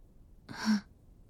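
A single little whimper, soft and breathy, lasting under half a second and ending in a faint, low voiced note, heard alone with no talking.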